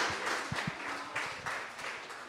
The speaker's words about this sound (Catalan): Un fort aplaudiment per als vostres companys, per favor.